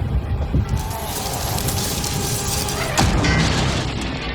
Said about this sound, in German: Vor ihm vier Autos ineinander gefahren, zusammengeschoben. Schrott. Mitten im Nirgendwo.